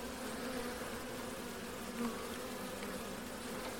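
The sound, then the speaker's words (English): A steady, dense hum of many honeybees buzzing around an open hive where a caged queen has been placed on top of the frames, continuous and even throughout with only slight swells, fairly soft, with no voices. “See what they think. Get a few bees on her.”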